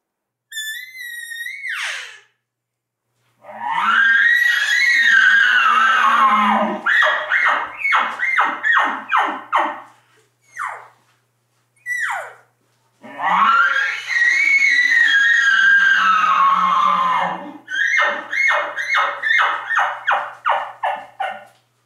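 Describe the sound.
A caller imitates elk bugling: a high whistle, then two long, loud, squealing bugles, each followed by a rapid string of deep, rhythmic grunting chuckles, with no talking.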